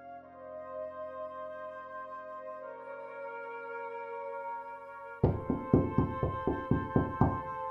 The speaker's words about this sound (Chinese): 2003年大年初三傍晚，随着一阵敲门声，闯进来十多个警察，二话没说，架起我就推进了警车